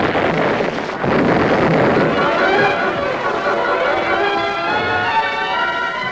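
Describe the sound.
A loud, premature explosion of lit fuses at a gap in a canyon bursts in after a brief drop in sound and rolls on as a sustained, rushing roar, with shouting voices of panicking cattle rustlers and commotion rising over it.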